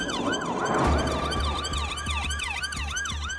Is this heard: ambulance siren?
yes